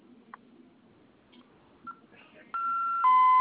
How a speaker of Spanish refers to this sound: Ok, va a oprimir la letra A durante 5 segundos. Se va a escuchar la alarma. En cuanto suene, por favor, ingrese su clave más el número 1 para silenciar.